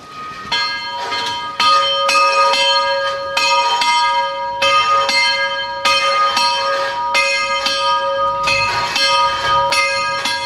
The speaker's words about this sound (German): ein sehr sinnlicher Klang von einer Glocke